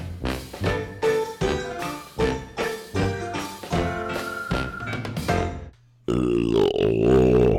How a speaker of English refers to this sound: Please stop leaning into the fucking mic when you burp. Please.